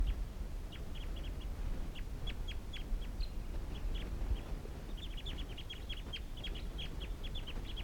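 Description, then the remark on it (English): A group of wild birds calls in quick, high-pitched bursts, short chirps clustering in rapid runs over a steady low rumble of background noise, with a brief lull before the calls pick up again. “And these are the wild birds calling.”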